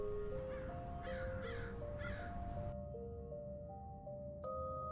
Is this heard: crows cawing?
yes